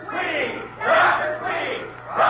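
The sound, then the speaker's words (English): A crowd in a gym cheers and shouts in swelling waves, loud and sustained, with bursts of yelling rising and falling over about two seconds, as Dr. Tweedy comes in before a basketball game. “They cheered me when I came in.”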